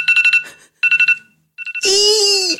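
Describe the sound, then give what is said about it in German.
A standard default phone alarm ringtone set to wake up in the morning: loud electronic beeps in quick bursts of four, pausing between groups, ending with a louder, sustained harsh tone. “Kamerad dachte sich, mögen wir auch nicht, wir brauchen keinen normalen Wecker.”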